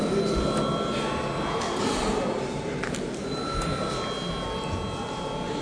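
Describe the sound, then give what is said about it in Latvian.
A parliament chamber voting bell rings steadily for several seconds before a vote on a bill, a loud, continuous metallic clatter with a bright, buzzing tone and no pauses, heard without any talking over it. “Lūdzu zvanu.”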